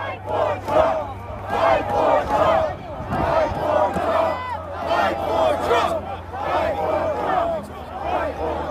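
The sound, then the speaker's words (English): A large crowd of protesters shouts and chants together outdoors under gray skies on January 6, 2021, presumably near the White House, many voices overlapping in loud, rhythmic bursts that carry on steadily throughout, with a low constant hum underneath. “In this video, which I first saw on the day he posted it, almost in real time, Guangcheng stands under a gray skies with a much larger crowd, presumably somewhere near the White House.”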